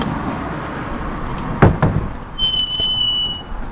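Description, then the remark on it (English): The big doors at the east entrance of a water tower in Ypsilanti swing open: a couple of sharp metallic clanks from the latch, followed by a brief high squeal of hinges, over a steady low outdoor rumble. “The big doors swing open and we step inside.”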